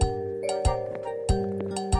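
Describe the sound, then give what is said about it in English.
A cattle bell of cows and goats clanks in a steady rhythm, four metallic strikes about two-thirds of a second apart, each leaving a bright, lingering ring that overlaps the next. No voices are heard. “You can hear the cattle bell, the bell of the cows and goats.”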